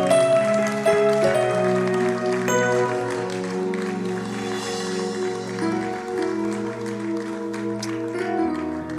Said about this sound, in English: Hallelujah. Put your hands together. Oh, your clapping is...